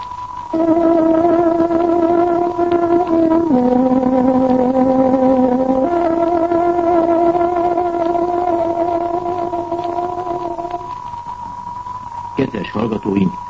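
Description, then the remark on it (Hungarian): A tárogató plays the Radio Free Europe time signal marking 16 hours: a loud, reedy woodwind melody of long sustained notes that steps between a few pitches, heard alone, closing with a couple of short, sharper tones. “Kedves hallgatóink, pontos időjelzést adok. Tárogatónk 16 órát jelez.”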